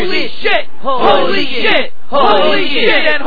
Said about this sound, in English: This one is completely out of control. Listen to the crowd chant.